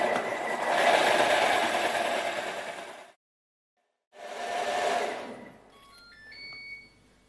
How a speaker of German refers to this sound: Also wenn etwas schön cremig sein soll, dann muss man immer eine Minute mixen, sonst schafft man das nicht.